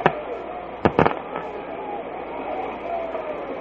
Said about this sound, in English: Red Sox fans trying to generate a little rally here with their applause.